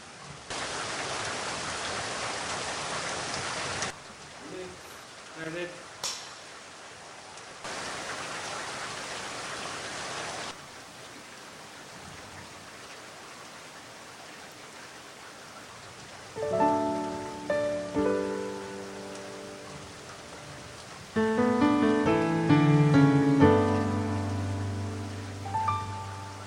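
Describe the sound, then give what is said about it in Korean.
Steady rain hisses in two bursts, loud, with a quieter stretch between them. Soft piano-like music then enters and grows fuller toward the end. “그냥 가도 되는 소리인가요? 빗소리.”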